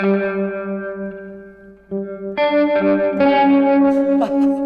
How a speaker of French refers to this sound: Quatre notes et cette pédale-là, à elle toute seule, assure la réverbe, la sinusoïde. Enfin, c'est mortel.